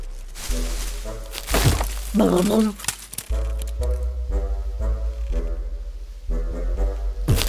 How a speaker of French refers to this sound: Aussitôt, l'arbre se secoue. Oh, il pleut des branches et branches.